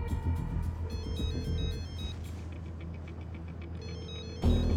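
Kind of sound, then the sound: signal or alarm, mobile phone ringtone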